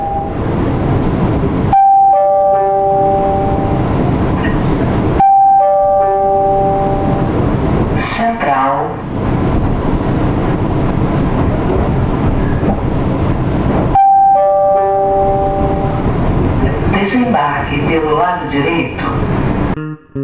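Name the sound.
train passing on rails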